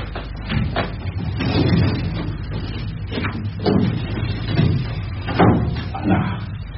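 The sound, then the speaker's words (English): A constable's chair scrapes and shifts as it is moved aside, then a filing cabinet drawer rolls open with a low rumbling slide, several clunks and bumps at a moderate level, and no one speaking. “Do you mind moving your chair so I can get to my filing cabinet, Constable?”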